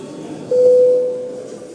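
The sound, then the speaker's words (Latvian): A single steady, mid-pitched electronic bell tone rings for about half a second at a sitting of the Latvian parliament, the Saeima, calling deputies to register their attendance, then fades away over a low background hum, with no talking. “Lūdzu zvanu.”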